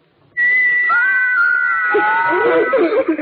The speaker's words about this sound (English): Wait, you can't go yet. You haven't heard my little figures whistle. Listen.